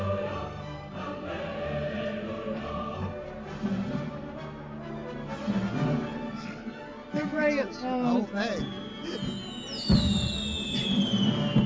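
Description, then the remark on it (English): A fireworks display crackles and pops with whistling streaks rising and falling, bursts layered densely over a steady background roar, lasting the whole stretch at moderate loudness. “It is worth celebrating. Gotta get the fireworks in.”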